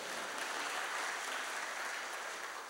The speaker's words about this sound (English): Is that a sympathy clap?